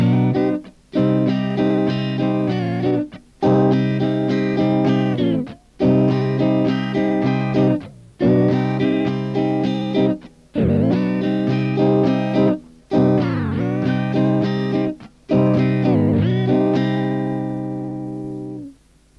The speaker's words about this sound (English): Here's an 8-measure C minor rhythm track for you to play along with and practice the color tones second or ninth, fourth, sixth, and major seventh.